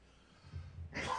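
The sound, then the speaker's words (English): A low, muffled rumble gives way to a single abrupt, breathy cough burst near the end, fairly loud, with no speech. “My God, I'm already coughing out last.”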